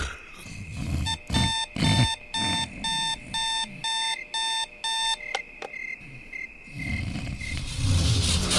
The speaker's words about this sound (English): I could let you know that you probably shouldn't hit the alarm clock anymore. Its red numbers are glowing a little brighter, and I can feel that it's angry. It wants something.